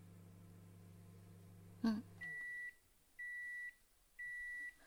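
A rice cooker's steady hum cuts off with a click, then three evenly spaced electronic beeps ring out, each about half a second long and clear, signalling that the rice is cooked.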